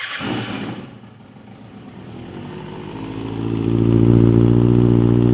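A modified track motorcycle with altered electronics, a full aftermarket exhaust system and track fairings cranks and fires up, settling into a rough idle before revving louder with a deep, buzzing exhaust note that builds toward the end.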